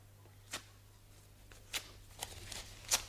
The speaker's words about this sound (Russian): Ты зачем бумагу рвешь? Это не бумага. А что? Это пепел Хиросимы.